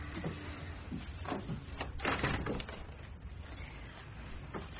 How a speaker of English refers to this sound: Should I close the door? Yes.